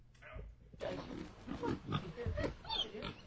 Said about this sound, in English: Okay, is there any audio? Bulking. Or is it just pigs eating? That's hot. That's pigs eating.